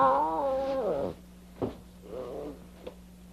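A lion cub lets out a loud, drawn-out mewling cry that slides downward in pitch, then a short click and a softer, briefer whine over a steady low hum.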